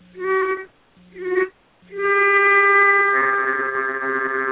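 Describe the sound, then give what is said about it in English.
A reedy pitch pipe sounds two short bursts, then holds a long steady note; partway through, the player hums a second note at the same time, forming a buzzy, sustained two-note blend. “So I'm humming this note and playing that note.”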